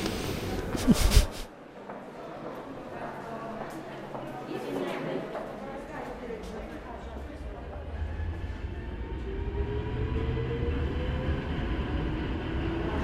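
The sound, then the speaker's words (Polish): A train at Łódź Fabryczna railway station rumbles steadily, its low drone building as rising electric whines suggest it pulling out; a brief loud clatter opens, with faint voices in the background. “Jesteśmy na dworcu Łódź Fabryczna. Zaraz pojedziemy pociągami powrotnymi do domu.”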